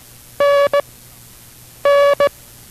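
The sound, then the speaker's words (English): International Morse Code instruction tones sound alone: a buzzy, mid-pitched tone gives a long dash followed by a quick dot, then the same dash-dot pair repeats after a short pause. “We will continue instruction in the rudiments of the International Morse Code.”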